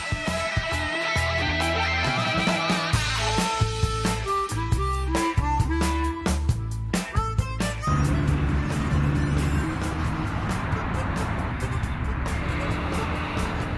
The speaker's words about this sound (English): Now, in the midst of all this heavy traffic, noise, and the hustle and bustle of a mega city, such sights definitely help bring a smile on your face and reduce the stress.